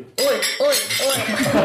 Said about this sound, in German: Jetzt können wir nochmal anstoßen. Richtig, jetzt stoßen wir an, genau.